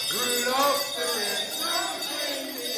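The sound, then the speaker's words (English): A group of people, led by Santa, sings a Christmas song together, steady and fairly loud, with overlapping melodic lines carrying on throughout and a faint bright jingle in the background. “When Santa arrives, he gets everyone singing, which seems to dispel any remaining shyness.”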